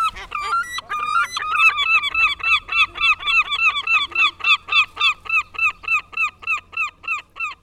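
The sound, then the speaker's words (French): Seagulls at the seaside call loudly: a few overlapping squawks at first, then a long, steady run of about twenty harsh, rhythmic cries, with a low hum underneath. “Au revoir, les vagues. Au revoir, les mouettes.”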